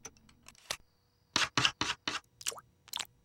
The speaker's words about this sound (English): Homer locks the cat flap.